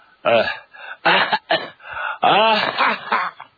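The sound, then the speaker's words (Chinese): A voice acts out the coughing of Guan Xiangying, a man with a chronic day-and-night cough, riding on horseback: a run of dry coughs, about five or six harsh, voiced bursts in quick uneven succession, fairly loud, with short gaps between them. “”关向英咔咔咳嗽了几口”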